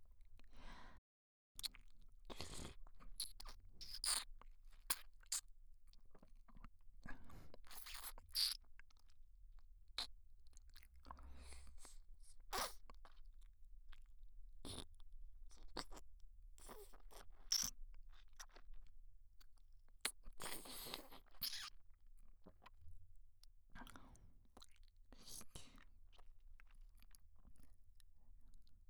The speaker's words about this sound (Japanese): 舐めてない方の耳を塞ぐと、さっきよりもエッチな水音が脳に響くでしょ。まるで頭の中を舐められてるみたいな。